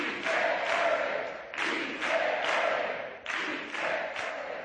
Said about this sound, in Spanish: Levantada la sesión, han llegado las fotos de grupo y Podemos se ha disuelto con su grito de guerra.